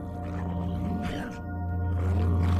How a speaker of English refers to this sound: Still, it attacked and growled in its odd way, breathing laboriously.